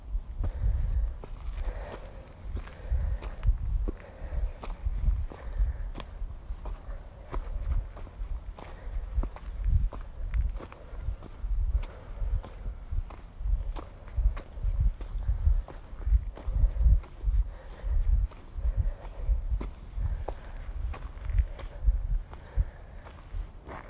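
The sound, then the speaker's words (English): Steady footsteps trudging uphill along a path, a regular rhythm of dull, crunching steps with a low thud to each one, continuing for the whole stretch with no talking. “I was a bit worried that after a week of not walking uphill, I would find this quite a struggle.”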